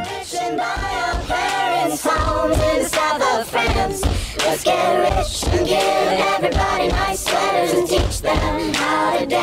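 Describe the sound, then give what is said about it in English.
A crowd does a soul clap, clapping together in a steady, repeating rhythm while many voices whoop and shout over it, the whole thing loud and sustained throughout. “Can I get a soul clap?”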